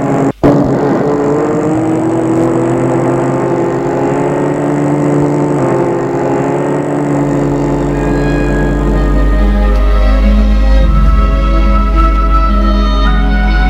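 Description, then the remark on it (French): A car engine hums steadily, then the pitch climbs and a heavy low rumble builds as a man drives off in his car to make a delivery. The sound is continuous throughout, with no voices. “François, furieux, a pris sa voiture et fait sa première livraison qui se passe bien.”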